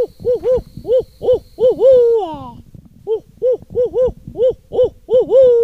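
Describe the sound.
A man's voice imitates an owl call, hooting in rapid rhythmic bursts with a rising-falling wail, pausing briefly before another run of hoots. Fairly loud, with no talking.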